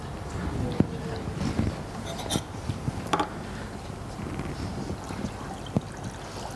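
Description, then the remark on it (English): Water for a baptism sloshes and trickles, with a few sharp clicks and knocks scattered through it and a faint murmur of background voices. “It's water!”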